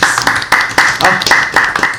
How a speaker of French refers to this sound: Et on peut t'applaudir peut-être ?